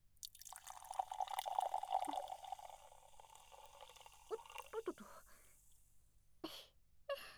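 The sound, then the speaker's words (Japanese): A drink is poured into a glass for a friend for a couple of seconds with a soft, steady gurgle, then a few quiet drips and light taps follow. Fairly faint, with no talking. “じゃあ次は私がついであげる。”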